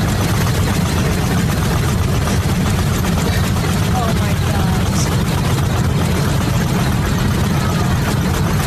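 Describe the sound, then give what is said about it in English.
A steady, loud engine drone with a rough, rattling low-end throb continues throughout, unbroken, from the engine of a large passenger plane chugging like a diesel. “This has got a diesel engine. Sounds like a diesel.”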